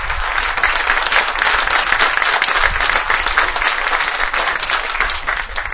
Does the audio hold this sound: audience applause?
yes